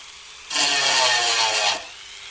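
A small high-speed dental-style rotary modelling tool grinds against wood to work hard-to-reach spots, in a single burst of just over a second, a bright, hissing buzz that starts abruptly and cuts off, with no voices.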